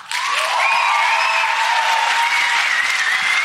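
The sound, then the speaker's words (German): A crowd at a stage show applauds loudly and steadily for the segment "Der perfekte Start ins neue Jahr", a dense wash of clapping that holds at full strength for a few seconds, with faint whistles or cheers rising through it. “Euer Applaus für der perfekte Start ins neue Jahr.”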